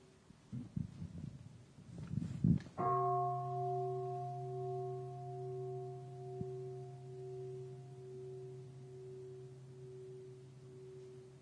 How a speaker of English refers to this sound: And there's a big bell, Dai Om Chung. And Dai Om Chung is big bell will be, when you hear the big bell, everybody, the whole temple stop and breathe and practice.